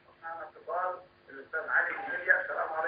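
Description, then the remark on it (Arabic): A television plays in the background of a caller's phone line from Libya during a call-in program. Its voices are thin and band-limited, running almost continuously with brief gaps and sounding tinny. “لو سمحت وطي التلفاز، لو سمحت وطي التلفاز واسمعني من الهاتف إن شاء الله.”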